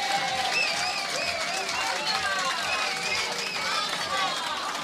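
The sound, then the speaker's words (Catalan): Sustained applause from a sizeable crowd for a woman introduced as the host's life companion, a dense steady clatter of clapping filling the whole stretch, with scattered cheers and voices rising above it. “Un aplaudiment per ella, sisplau.”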